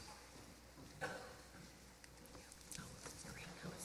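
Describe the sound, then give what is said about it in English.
Rain beginning to fall: a faint, steady hiss with sparse, scattered droplet taps that grow more frequent toward the end, quiet, with no clear voices. “Now it's starting to rain on top of everything else.”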